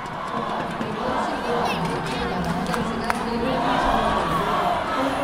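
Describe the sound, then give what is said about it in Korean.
A large arena crowd at an ice hockey game roars and cheers continuously at the unified Korean team's first goal against Sweden, a dense, steady wall of voices with a brief sharp knock partway through. “연일 우리는 하나다, 통일 조국, 코리아 이겨라를 외치며 단일팀을 응원한 관중들은 단일팀의 첫 골에 기쁨을 감추지 못했습니다.”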